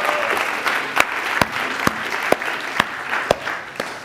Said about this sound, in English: How about another round of applause for our team this morning?